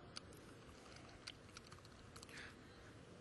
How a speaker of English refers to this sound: And so I'm in the editor. I'm opening new lines. I'm typing code.